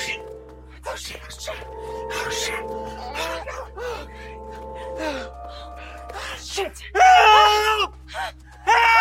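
A man screams in panic inside a semi-translucent pod that has closed around him, starting with strained, gasping vocal cries that build into loud, harsh shrieks near the end, intense.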